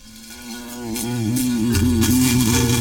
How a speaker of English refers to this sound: It's that same sort of bug that attacked us back in the canals. Bulbous and black and bigger than any cicadas I've seen. And it's got at least a dozen of these weird shaped antennas. It's buzzing madly, banging against the glass.